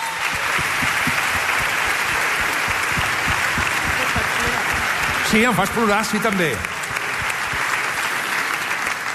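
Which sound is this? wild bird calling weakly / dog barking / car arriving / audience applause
audience applause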